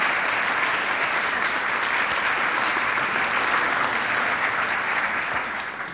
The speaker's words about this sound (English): We think you've done a great, great job. And thank you so much for serving us. I think they probably deserve a round of applause for that.